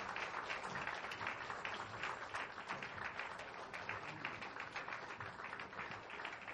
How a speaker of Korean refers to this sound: 네, 다시 한번 뜨거운 박수로 축복해 주시면 고맙겠습니다.